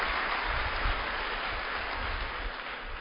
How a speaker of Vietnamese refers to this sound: Chúng ta đồng ý không? Đồng ý không? Bé thế. Nếu đồng ý cho mà chàng vỗ tay thật to xem là để cùng làm với nhau.